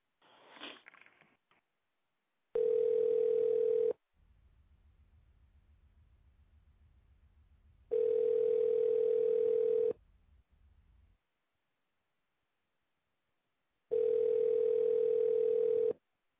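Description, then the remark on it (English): Ringback tone of an unanswered outgoing phone call: three steady two-second electronic rings, evenly spaced several seconds apart, with a low hum between them and a brief sniff at the start. “Well, he seems not to be answering his phone.”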